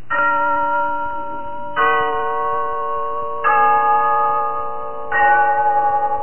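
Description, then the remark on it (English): The clock bell of Glen Falls Town Hall chimes four times at a slow, even pace, each loud strike ringing with rich overtones and a long sustain that blends into the next. “Yes, there's the clock in Glen Falls Town Hall, telling us it's time for Rinsol's story of Big Sister,”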